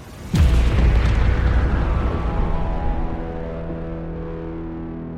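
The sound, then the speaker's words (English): A spaceship's auxiliary thruster, destroyed by a laser beam, explodes in a single heavy blast that hits suddenly with a deep boom, then rumbles and rings on with a long, slowly fading metallic resonance and no voices. “The next laser beam cut deep into my structure and destroyed one of my auxiliary thrusters. The resulting explosion shocked my entire body.”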